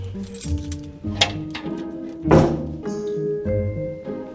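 A quite massive, heavy door being unlocked: keys jangle and several sharp metallic clicks and clunks follow one another, with a louder thunk midway and faint ringing overtones, no voices.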